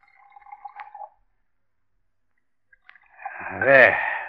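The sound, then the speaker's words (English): Brandy from a freshly uncorked bottle glugs into a snifter glass, a short gurgling pour whose pitch climbs as the glass fills, after a softer liquid trickle and a pause. “I'll pour”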